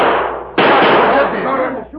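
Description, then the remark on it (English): Two sharp gunshots fired as signals, the second cracking in at about half a second. Each blast rings into a long, rough, hissing tail of noise, with no clear talking over them. “You hear those shots, Tonto?”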